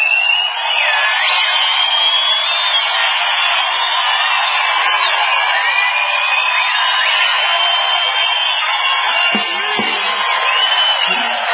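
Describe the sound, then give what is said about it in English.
A large crowd at a worship service, asked to whistle, whistles and cheers loudly and without a break, with many shrill, sliding whistles overlapping above a steady roar of voices and whoops. “Come on, if you can whistle, do it.”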